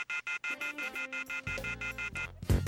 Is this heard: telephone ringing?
yes